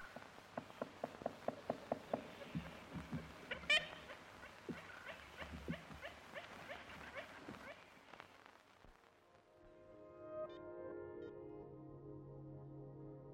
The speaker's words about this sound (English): This is a recording they made in April 1935. There used to be ivory-billed woodpeckers. They used to make these sounds. This is a recording of a lost world.